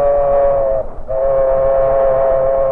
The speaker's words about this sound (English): It was mid-morning when a locomotive and a caboose, the combination known to railroad men as a caboose bounce, moved west along the tracks.